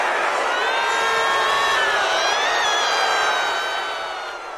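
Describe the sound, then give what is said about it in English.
A large crowd boos and jeers Ted Cruz off the stage, a dense roar of many voices with rising and falling wails, holding steady for several seconds before tapering off at the end. “you were there last night when Ted Cruz got booed off the stage.”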